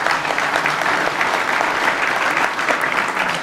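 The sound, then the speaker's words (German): Sustained audience applause for the parish priest at a gathering in an inn, a dense steady patter of many hands clapping at an even, fairly loud level throughout, with no voices standing out. “Einen kräftigen Applaus spendieren wir schon.”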